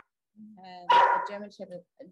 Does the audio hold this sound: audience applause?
no